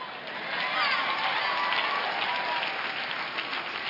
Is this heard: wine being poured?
no